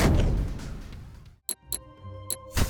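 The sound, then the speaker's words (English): A heavy cannon blast from a video game weapon roars and rumbles, fading over about a second, then a few sharp, separate clicks ring out over a faint sustained hum. “Chaos Cannon!”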